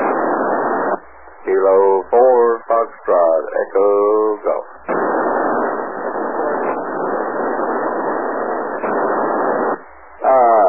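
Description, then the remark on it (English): A weak amateur (ham) radio reply in the morning: a distorted voice breaks through a hissing, narrow-band radio channel in short garbled bursts, then fades back into a long stretch of steady static. “Again, I could hear my call, couldn't quite pull you out”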